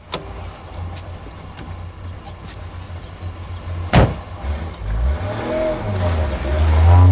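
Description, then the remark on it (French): A woman climbs into a car where a man sits at the wheel, and a door thuds shut once over a steady low engine rumble that swells louder toward the end. “écrase sa cigarette et le rejoint dans la voiture.”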